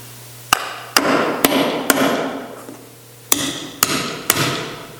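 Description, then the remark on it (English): A nail is hammered into wood with seven sharp, ringing blows: a steady run of four, a short pause, then three more. A low steady hum sits underneath, and nobody speaks. “if you just nail that in the middle there somewhere.”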